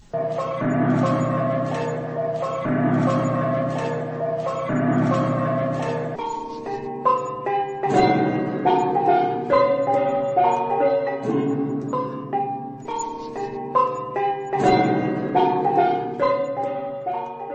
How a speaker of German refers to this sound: Hervorzuheben ist das Gong-Musikinstrument